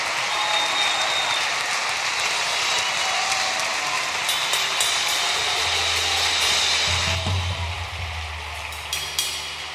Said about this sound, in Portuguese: Então, para comemorar isso, eu quero que a igreja aplauda o Senhor e faça barulho.